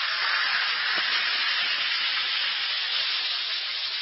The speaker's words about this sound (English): Simply drop one or two Alka-Seltzer tablets into a glass of water and listen to it fizz.